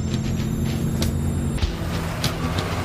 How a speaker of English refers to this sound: Pickup truck pulls up in the parking lot.